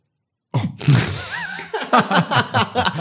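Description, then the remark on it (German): After a moment of silence, a loud, low, drawn-out burp rumbles out, followed by a string of short, choppy vocal bursts. “Kann der muss sich auch mal ein bisschen aufstoßen.”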